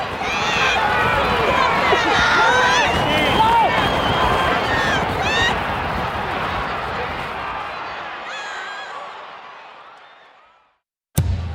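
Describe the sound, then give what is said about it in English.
A horse racing crowd of fans cheers and yells "come on!" loudly together, screaming at the top of their lungs, many excited voices overlapping in a sustained roar that gradually fades away, followed by a brief sharp click at the end. “Horse racing fans, they get really crazy when they're cheering. Those people that are yelling, come on!”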